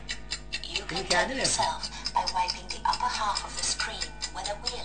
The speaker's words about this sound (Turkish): Evet, şu anda saat sesini etrafında döndürüyor. Bir yerde durdurup benim ona tam karşısına geldiğini söyledik.